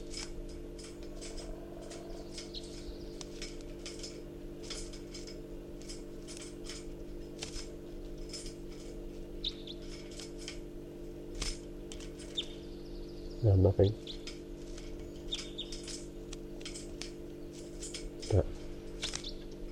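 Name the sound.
wild birds calling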